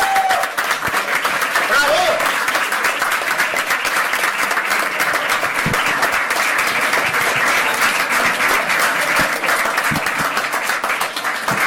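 A large audience in the hall at the Sitges 2015 film festival awards applauds steadily, a dense, sustained roar of many hands clapping at an even, loud level throughout, with no break or fade.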